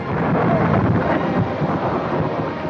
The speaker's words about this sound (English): Later, darkening storm clouds gather overhead.